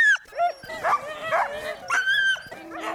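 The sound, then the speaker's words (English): A team of eight sled dogs at Wolf Song Adventure barks and yips excitedly, high-pitched yelps and whiny cries overlapping in quick bursts, fairly loud, while pulling first-time mushers on a sled at 12 miles an hour. “how to ride on the back of a sled at 12 miles an hour with 8 dogs pulling as one.”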